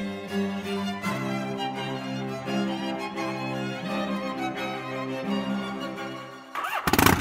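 A motorcycle engine turns over and settles into a steady, throbbing idle, with a few shifts in pitch, then a louder, rougher burst of revving right at the end. No one speaks.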